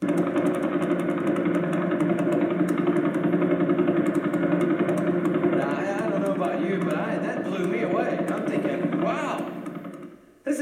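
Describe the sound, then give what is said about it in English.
Vela Pulsar radio telescope recording turned into sound, the pulsar about 1,000 light years away: a loud, steady, rapid pulsing drone that purrs like an idling engine, holding constant for about ten seconds before cutting off abruptly. “This is what, from 1,000 light years away, the Vela Pulsar sounds like right now.”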